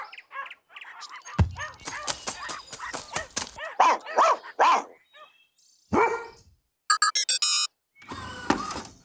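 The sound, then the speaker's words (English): Several dogs bark in quick, uneven bursts, deeper woofs mixing with sharper high yips, loud with brief pauses between volleys and no talking. “Look at all of these dogs.”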